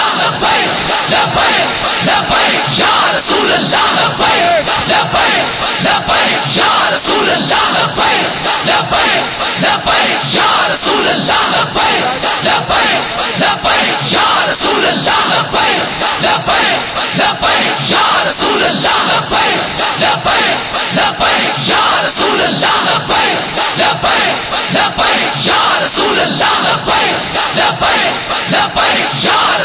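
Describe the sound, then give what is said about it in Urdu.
A large crowd chants and shouts loudly and steadily for the whole stretch, a dense roar of many voices with repeated rhythmic bursts. “او شیرو بیٹھ کے نعرہ لاؤ, پچھلے پھر پریشان ہو جاندے, او پھر کہندے شاید مجمع ہون بعد سلام پڑھن لگے, تسی اٹھ دے ہو تو او پچھلے پریشان ہو جاندے.”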